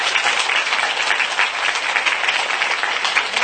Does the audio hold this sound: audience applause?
yes